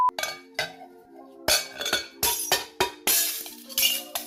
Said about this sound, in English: They mushed up a glass. Oh, we are going to revert it to its original form. Sand.